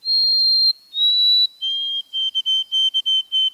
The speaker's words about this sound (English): The white-throated sparrow's melancholy whistle is hauntingly beautiful. Some birders remember the syllables of the tune as Old Sam Peabody, Peabody, Peabody.